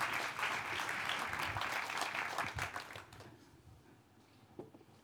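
An audience applauds steadily with dense, crackling clapping for about three seconds, then it fades and thins out to scattered claps near the end.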